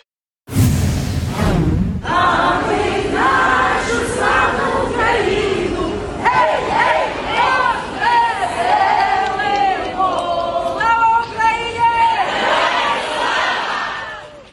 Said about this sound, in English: That's footage today from the subway system in Kyiv, in the capital city in Ukraine. That last little bit that you heard there, the call and response at the end, that translates as glory to Ukraine and glory to the heroes.